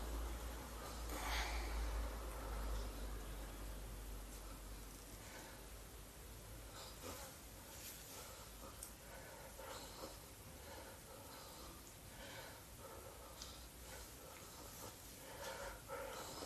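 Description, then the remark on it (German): A man breathes heavily with snuffling sounds, steady and continuous with rough snort-like pulses over a constant background hiss; no one speaks. “ist schon wieder schwer am Atmen.”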